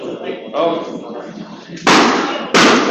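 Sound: balloon popping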